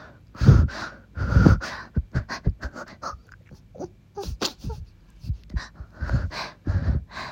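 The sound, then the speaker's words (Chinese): Heavy panting, with two long, deep breaths followed by a quick run of short, ragged huffs, then a few more strong breaths toward the end, from someone out of breath while taking a walk. “没有啊，老公，我还在散步啊。你散步的时候你不喘气啊？”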